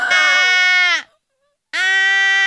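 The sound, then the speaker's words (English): A baby hippo gives two loud, bleating calls, each about a second long and rich in harmonics, separated by a brief silence, with no talking. “Baby call hippo, yeah. Mom. Is that a baby hippo?”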